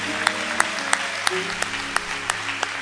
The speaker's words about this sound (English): Look at that. Y'all give her a big hand clap.